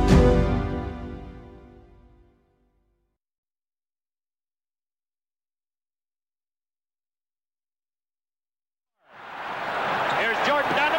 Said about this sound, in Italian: Ecco Jordan, sentite la folla, tutto lo stadio in piedi, supera la metà campo.